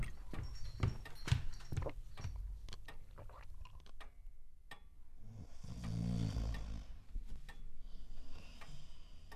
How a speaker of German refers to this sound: Wie man nur so schnarchen kann.